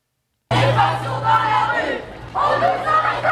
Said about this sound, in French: Elles sont des centaines à crier leur colère et leur ras-le-bol. Solidaires et déterminées, le but est de se faire entendre.